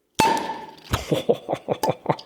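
A glass cola bottle is opened with a sharp, ringing clink, followed by a quick run of rhythmic clattering taps. It's loud, with no one talking.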